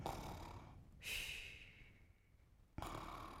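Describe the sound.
A person fakes snoring: a few breathy, rasping inhales and exhales in slow succession, fairly quiet, with no talking.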